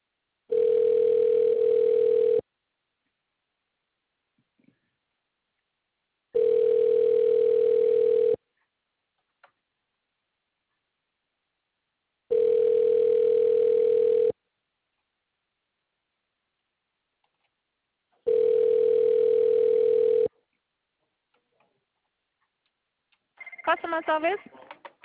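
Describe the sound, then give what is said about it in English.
A telephone ringback tone purrs four times while a call is being transferred to a representative, each burst about two seconds long with long silent gaps between, steady and clear; near the end a person starts talking. “The phone was ringing.”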